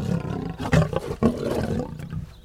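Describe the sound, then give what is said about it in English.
Lions roar continuously for a few seconds, a deep, rough rumble that swells in two loud bursts before trailing off, with no voices. “just ahead she spied the lions themselves.”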